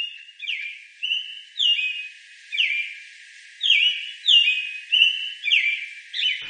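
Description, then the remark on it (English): An American robin, introduced as the Iowa Bird of Mouth bird for May, sings a steady series of clear, rising-and-falling whistled phrases, repeated about every half second to second, fairly loud with no other sounds. “Tell us about the robin and why you chose.”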